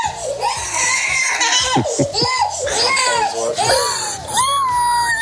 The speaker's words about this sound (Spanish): Se pone a llorar. Al oírlo, Marta, su hermana de 2 años, se pone a llorar también.